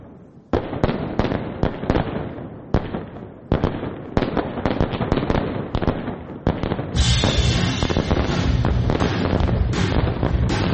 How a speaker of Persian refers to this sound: که با سر و صدا یا نویز آتیش بازی شروع میشه.